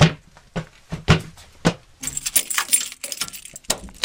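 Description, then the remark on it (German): A few sharp metallic clunks at a steady pace, then a bright, sustained jangle of keys rattling as a large, heavy door at the entrance of a mine is unlocked with a key. No voices. “Und da vorne ist nochmal eine große Tür, eine schwere, die müssen wir noch aufschließen, ne?”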